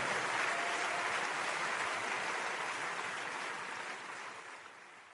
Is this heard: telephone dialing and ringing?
no